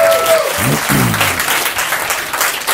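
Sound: audience applause welcoming speaker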